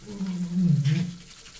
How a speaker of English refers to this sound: I'm in the bathroom, is it obvious? Should be now as I squirt some Dove cream wash onto my hand. This is my version of a quick shower.